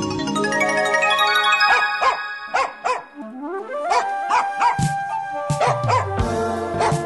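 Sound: dog barking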